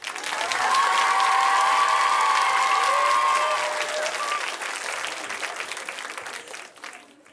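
An audience claps steadily, with a few whoops and a sustained cheer riding above the dense patter, then the applause thins and fades out over the last couple of seconds.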